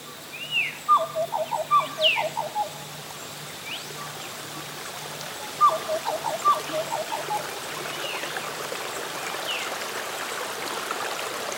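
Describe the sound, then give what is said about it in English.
A butcherbird sings two short, clear melodic phrases a few seconds apart in a rainforest, over the steady rushing murmur of a creek. “Take a moment to really listen and enjoy this butcher bird.”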